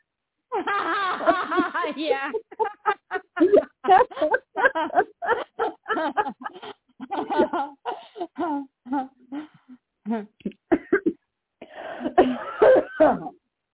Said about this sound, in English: Sorry about that. Start coughing. Oh, goodness.